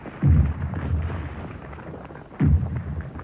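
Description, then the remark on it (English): Two heavy German artillery blasts firing on the Volga crossings, about two seconds apart, each a deep booming thud that rolls off into a low rumble, with a steady dull background roar between them. “The city was now surrounded on three sides, and the Volga crossings were under fire from German artillery.”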